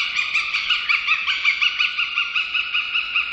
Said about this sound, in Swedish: Det är inte olikt havsörnens kacklande läte som vi hörde i början och som kommer här igen. Fast duvhökens kanske är en smula mer distinkt och rent i tonen.